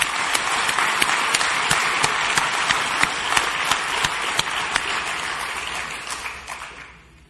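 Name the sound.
round of applause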